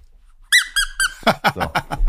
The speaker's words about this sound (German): Weil das Gequietsche wird ja nicht mehr aufhören.